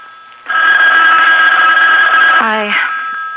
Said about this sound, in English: I better answer the phone.